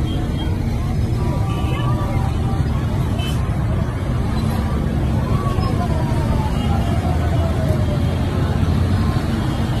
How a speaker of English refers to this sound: So here we see the Taliban in trucks and Humvees